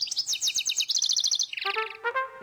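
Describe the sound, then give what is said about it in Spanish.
A bird sings a quick, bright song: rapid high trills tumble into a series of clear, descending whistled notes, with no voices present. “Si no quieres perderte de la música, el canto de un pájaro, la voz de tus amigos y de todos esos sonidos que viven contigo a diario”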